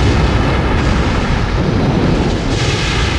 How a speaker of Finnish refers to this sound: Itse asiassa parin minuutin ajan Apollo putosi alaspäin radallaan ilmakehän rajamailla, keräsi nopeutta maan painovoimasta, kunnes 7 minuutin kohdalla tärinä ja jyrinä tulivat takaisin, kun toisen vaiheen moottori tärähtivät käyntiin.